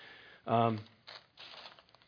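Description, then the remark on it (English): A short vocal sound is followed by two soft bursts of papery rustling, like sheets being shuffled and handled, fairly quiet and brief, as a piece of paper is handed out. “I have a piece of paper that I'm going to hand out to you because there's a lot of voices out there.”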